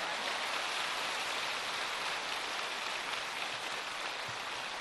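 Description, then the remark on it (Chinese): Steady, dense applause from a large audience, a continuous wash of many hands clapping at even loudness for the whole stretch, with no voices heard over it. “掌声多了吧？”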